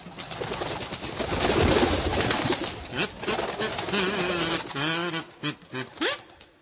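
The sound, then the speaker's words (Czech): Pigeon cooing: a few low, throaty, warbling coos in short bursts, preceded by a few seconds of dense rustling noise, with no voices. “To nemůže dobře dopadnout, pomyslí si kmotr stoříšek, a počechrá bubláka po rousech.”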